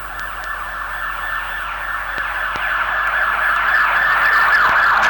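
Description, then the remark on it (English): A hospital ambulance siren wails steadily in repeating sweeps, growing gradually louder as it approaches, with faint background noise and a few sharp clicks. “That's a hospital ambulance.”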